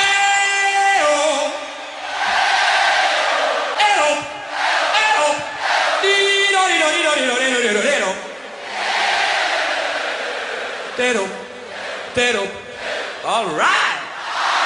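A huge crowd sings loud, sustained wordless vocal phrases in unison, with pitches sliding and wavering, one chant following another with brief dips between them for about fifteen seconds.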